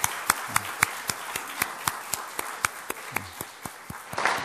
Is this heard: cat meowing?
no